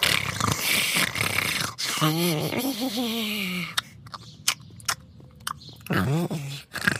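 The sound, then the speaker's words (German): A voice imitates a small creature sleeping peacefully in a person's arms: breathy snores, low wavering grumbles, and a run of wet smacking clicks, fairly loud, with no words spoken. “während das kleine Wesen friedlich schnarcht und immer wieder leise grummelt und schmatzt.”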